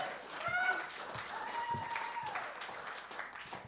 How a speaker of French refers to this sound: On l'applaudit!